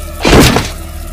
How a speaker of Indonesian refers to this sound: Ku coba membuka pintu kamar mandi itu, tapi ternyata terkunci juga. Karena rasa penasaranku yang tinggi, langsung ku dobrak juga pintu kamar mandi itu.